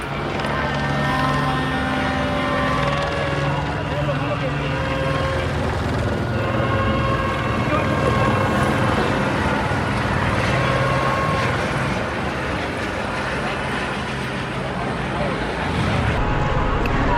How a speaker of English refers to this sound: Maybe mistaken, but I think the helicopter is issuing a dispersal order. Can't really hear. There's just so many sounds happening right now.